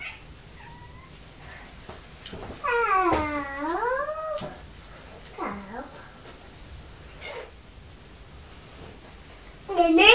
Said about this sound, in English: Oh look, it's Purdy. What's Purdy saying? Meow, meow.